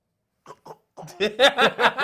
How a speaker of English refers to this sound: Isn't that disrespectful? Not clearing your throat. Gagging and shit.